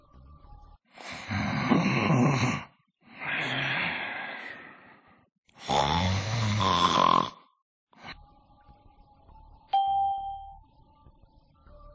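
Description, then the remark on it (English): Three loud, rasping snores from a sleeping man rise and fall in a slow, even rhythm, followed by quiet and a faint, brief chime near the end. “He's sleeping.”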